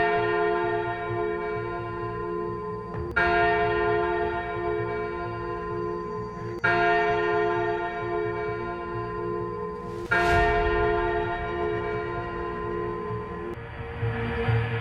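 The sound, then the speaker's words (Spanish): Deep church bells toll slowly and steadily at night on the Night of the Dead, each strike ringing out and lingering into a rich, humming resonance before the next, about four strikes across the stretch with no voices. “En la noche de difuntos me despertó el sonido de las campanas.”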